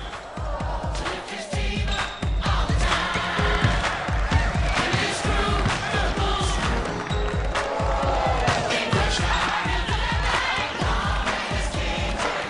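A basketball thumps against a hard floor again and again in a quick, uneven rhythm, with sharp slaps of no-look passes thrown all over a church between bounces, all set against a lively, cheering crowd.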